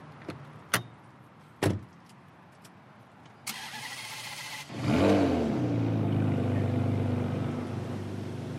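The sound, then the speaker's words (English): A car door thumps shut twice, then a starter whirs and the engine catches and settles into a steady idle, with no one speaking. “Let's go for a ride.”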